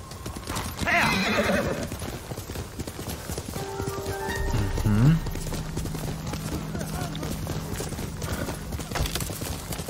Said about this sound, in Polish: Dobra, koniku. Gdzie ty jesteś, koniku? Dawaj.